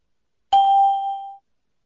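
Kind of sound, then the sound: signal or alarm, beeps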